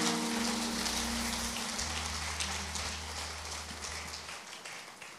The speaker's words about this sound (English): Give the Lord a big clap and say, my heart is fixed.